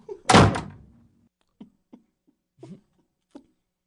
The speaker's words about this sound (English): He just opened the door.